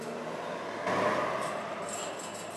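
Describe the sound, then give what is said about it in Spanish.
Steady street traffic noise with motorcycles, buses, taxis and cars on a busy road in Comuna 2 near El Popular, a broad engine roar that swells about a second in and then settles, with a thin high whine emerging toward the end. No one speaks. “El sonido de las motos advierten lo contaminada que puede estar, pero casi al final se divisa un parque que ayuda a menguar lo denso que puede ser este lugar, el del Popular.”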